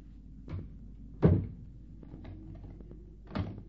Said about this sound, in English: You locked the door after your sister? Yes, I did.